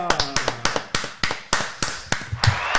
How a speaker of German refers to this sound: Da kommt auch nochmal der Applaus